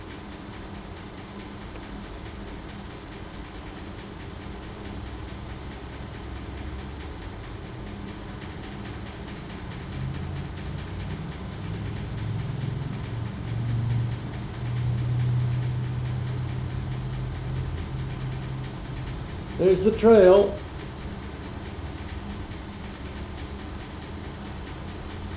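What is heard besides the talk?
train running on rails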